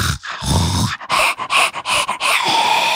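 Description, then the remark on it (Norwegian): A person imitates heavy panting, with quick, breathy huffs in a steady rhythm and short gaps between them, loud and without any words. “Jeg følte som noen som lå og pustet ved siden av meg.”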